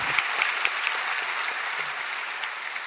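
Steady audience applause in a grand hall at the New York City Public Library in 2015, for author Ta-Nehisi Coates, fills the whole stretch, a dense wash of many hands clapping at an even level with a few sharper claps standing out near the start. No one speaks.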